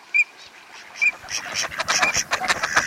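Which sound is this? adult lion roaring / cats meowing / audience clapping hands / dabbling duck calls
dabbling duck calls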